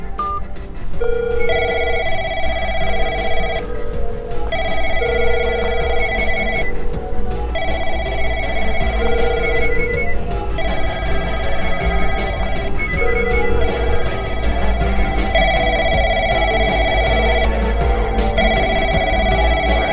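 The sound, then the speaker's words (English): A cell phone rings with a repeating electronic ringtone, steady bursts of bright, buzzy tones over a constant low rumble, with no voices. “Put down that phone”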